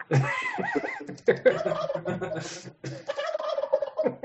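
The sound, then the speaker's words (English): A turkey gobbles loudly in rapid, warbling bursts, with brief pauses between calls, the throaty rattling notes running for about four seconds. “Shoot it. Shoot that turkey.”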